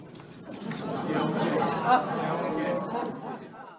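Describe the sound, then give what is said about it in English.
A steady murmur of crowd chatter, many overlapping voices blending into a continuous babble at moderate level, with no single speaker standing out. “You hear the crowd in the background.”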